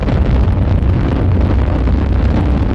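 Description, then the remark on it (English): A loud, continuous roar of rocket engines at liftoff, a dense low rumble with a harsh rushing hiss that holds steady throughout, with no voices. “T-minus 10, 9, ignition sequence starts. 6, 5, 4, 3, 2, 1, 0, all engine running. Liftoff, we have a liftoff.”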